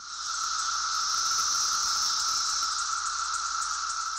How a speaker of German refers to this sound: Er beginnt seine Kolumne mit der Musik der Zikaden, die derzeit in großen Scharen die Nordostküste der USA heimsuchen.